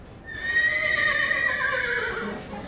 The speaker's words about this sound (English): Well, Fancy is a quarter horse mare out of South Dakota. She's a buckskin. She's 8 years old. She's my baby. She's spoiled rotten.